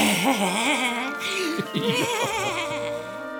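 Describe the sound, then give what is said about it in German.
A human voice imitates a goat's bleat, giving a drawn-out, wavering 'meh' with a quivering pitch that rises and falls. It is moderately loud, with no other sounds behind it. “Da fragte er: Na, Ziege, bist du satt?”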